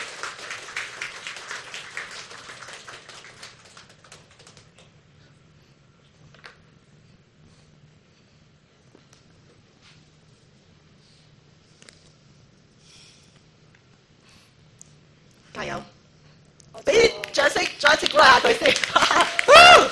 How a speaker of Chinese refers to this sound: 可不可以给最大的掌声